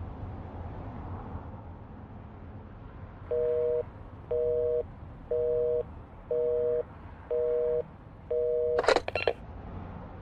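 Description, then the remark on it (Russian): A telephone busy tone beeps in six short, evenly spaced pulses over a low background hum after a long telephone conversation, followed by a brief crackling clunk as if the handset is set down. “Однажды, после долгого телефонного разговора, она заплакала.”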